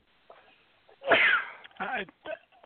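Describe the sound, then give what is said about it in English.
A single loud sneeze bursts out after a quiet breathy lead-in, followed by a couple of short muffled vocal sounds. “Bless you.”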